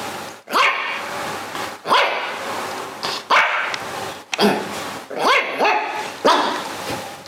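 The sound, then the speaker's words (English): Several dogs bark loudly in repeated bursts, overlapping yips and woofs with brief gaps, continuing steadily throughout without any talking. “But instead of applause, we're going to do a minute of dog barking.”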